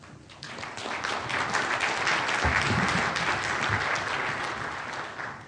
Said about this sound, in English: A round of applause for all the speakers so far.